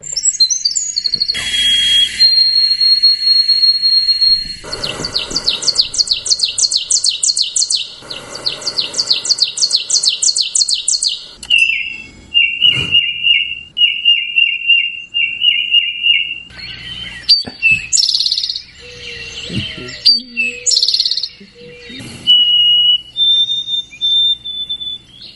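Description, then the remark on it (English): A bird sings its 'drink your tea' song, repeating bright whistled notes that end in rapid trills, with short pauses between phrases and no talking. “And our little drink your tea bird is welcoming”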